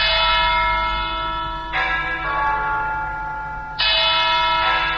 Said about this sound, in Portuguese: Os sinos da Catedral de Nossa Senhora da Vitória, em Yaoundé, convidam os católicos para a celebração da liturgia que será oficiada pelo arcebispo Jean Mbarga.